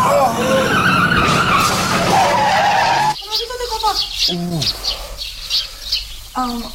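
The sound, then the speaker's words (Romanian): A car brakes hard as the driver lets off the gas, tires screeching loudly for about three seconds before cutting off abruptly, followed by people talking in the quieter aftermath. “Așa, noi închideți gazele și frânați!”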